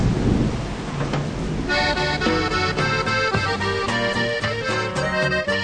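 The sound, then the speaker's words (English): A steady roar of heavy rain pours down with a low thunderous rumble. After a couple of seconds, tonal music rises over the continuing downpour. “In Mexico, when it rains, es un chubasco.”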